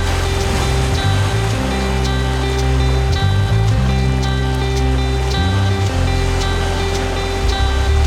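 A steady, continuous wash of sea waves rolls onto the shore of a blue sea without pause, blended with sustained low musical chords that shift slowly underneath. No voices are heard.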